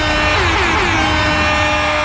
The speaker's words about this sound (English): Yeah, y'all thought we forgot about the air horn. Easter egg! And exactly. Jobs Friday! We can't have Jobs Friday without the air horn. It would be sacrilege.